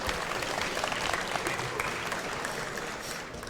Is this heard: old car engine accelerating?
no